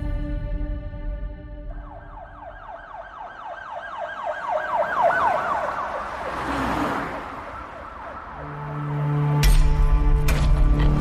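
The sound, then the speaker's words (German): An ambulance siren wails in rapid rising and falling sweeps over a low rumble of traffic on the boulevards of Las Vegas on a Friday evening, swelling as it passes before giving way to louder engine and road noise. “Ein Krankenwagen paced über die Boulevards der Spielerstadt.”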